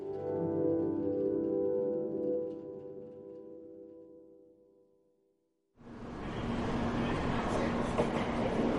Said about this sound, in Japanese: 翌朝、新幹線で滑り込んだ新大阪駅は快晴だった。